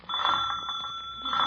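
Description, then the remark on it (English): A door bell rings in one continuous, rattling burst lasting over a second, bright, metallic and loud, with no voices over it. “Where's the bell?”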